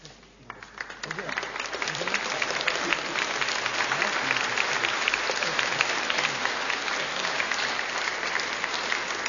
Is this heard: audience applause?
yes